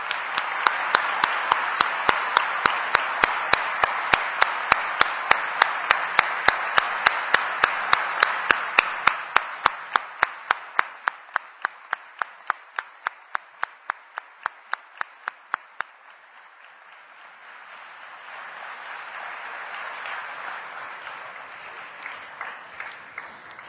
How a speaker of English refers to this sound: A big hand of applause for the future of Balvikas.